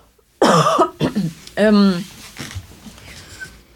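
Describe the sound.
A person coughs loudly, a harsh burst followed by a couple of shorter hacks and a rough, voiced throaty cough, then quiet.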